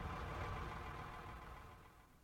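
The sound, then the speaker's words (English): A heavy diesel tractor engine idles steadily, a low rumbling drone with a rough, continuous texture that fades slightly toward the end, with no voices present. “In the meantime, get in that tractor and let's get the silage loaded, okay?”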